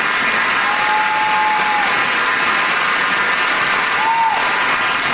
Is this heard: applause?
yes